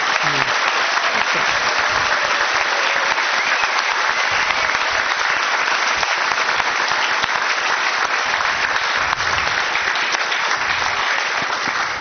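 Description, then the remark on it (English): Sustained applause from a sizable audience for the participants of an evening event before their opening statements, a dense steady wash of clapping hands that stays loud and even for the whole stretch, with no one speaking over it. “So, I will ask you to refrain from clapping at the end of their answers.”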